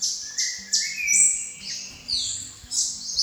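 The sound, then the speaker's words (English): Thousands of birds chirp and tweet at once in a dense, overlapping dawn chorus from a distant forest, high bright calls repeating in quick bursts with no voices. “A sudden synchronous chorusing of thousands of birds and the humming of millions of insects from the distant forest floated into the sound, announcing the start of a new day.”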